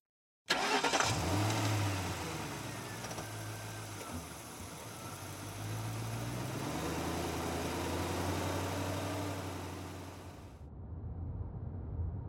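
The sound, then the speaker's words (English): A family car's engine turns over and catches, then settles into a steady low hum as the vehicle sets off on a 45-minute drive, the rumble rising slightly before fading near the end. “The family lapsed into a comfortable silence as they made the 45-minute drive to their destination”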